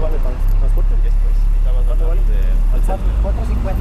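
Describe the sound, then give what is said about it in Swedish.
A worn-out former American school bus rumbles loudly, its heavy low engine drone steady as it brakes to a stop to pick up more workers while it is dark outside, with people's voices talking faintly over the noise. “mörkt ute och strålkastarna lyser oss ögonen när den utslitna före detta amerikanska skolbussen bromsar till för att plocka upp fler arbetare.”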